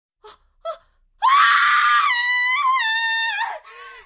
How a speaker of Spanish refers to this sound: Desde entonces transcurrió una semana y una mañana temprano se escuchó el grito de una mujer desde el lote vacío. Cuando acudió al lugar para arrojar la basura, halló el brazo de un hombre que sobresalía del suelo.